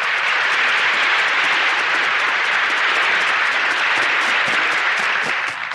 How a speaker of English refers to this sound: I'm sure our radio audience joins the audience in the theater tonight in applauding Dick Powell and our cast for their performance in Gettysburg on the DuPont Cavalcade of America.